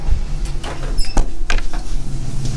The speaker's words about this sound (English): Opening the door, and here we go.